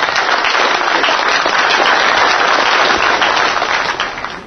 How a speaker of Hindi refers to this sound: कहानी को पढ़ने के बाद तालियों की गड़गड़ाहट हुई।